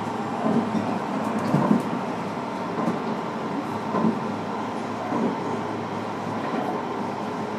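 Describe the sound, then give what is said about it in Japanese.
Steady rumbling of a Tokyo line train running along the rails as it nears its last stop, 森林公園 (Shinrin-koen), with occasional soft clanks and jolts from the cars, heard from inside at a constant moderate level. “The next station is 森林公園。 This is the last stop of this train.”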